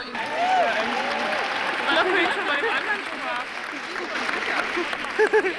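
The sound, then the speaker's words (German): Steady applause from an audience filling a city hall almost to the last seat on the lower level, greeting a woman coming onto the stage, with scattered voices and crowd chatter mixed into the clapping throughout. “So, und dieser Applaus gilt einer Gebärdendolmetscherin, die hier auch gebraucht wird.”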